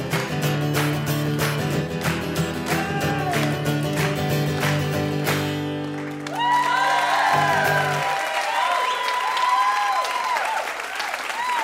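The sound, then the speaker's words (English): Loud, dense applause from an audience, a steady wash of many hands clapping, with cheers and whoops rising over it in the second half as the music underneath drops away. “Good clapping. Major clappage.”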